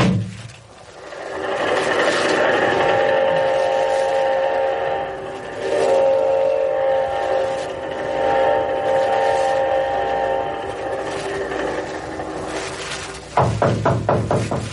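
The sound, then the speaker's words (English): A train rumbles along while its whistle sounds in long, sustained blasts over steady mechanical noise, ending with a quick, rhythmic clatter of wheels. It is loud, with no talking. “I've got two or three other people to see before I catch the night train back to Chicago.”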